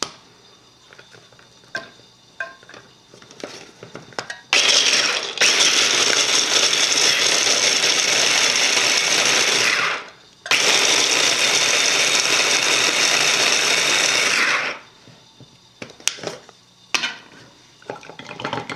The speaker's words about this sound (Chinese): 跟住落嚟咧，我咧就係、是、想咧將呢啲腰果咧就係、是、打碎佢啦。咁喺呢度咧就係、是、有一部迷你嘅食物處理器啦。咁跟住咧，我咧就可以咧打碎啲腰果啦。